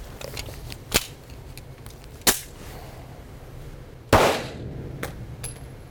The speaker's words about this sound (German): Wo ging der hin? Wie viel Schuss solltest du abgeben? 2.